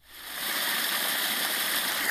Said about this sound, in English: I'm checking out the water gushing through that stormwater pipe. I've lived in this neighborhood for 16 years, and this is the first time I've seen it rain hard enough for water to flow through there.